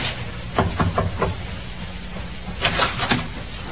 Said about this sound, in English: Captain Booth thought it might be courteous if Miss Parsons were under the weather to pay her a courtesy call. Captain knocked.